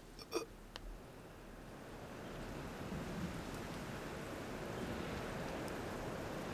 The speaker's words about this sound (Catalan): Plou. No recordo la darrera vegada que va ploure.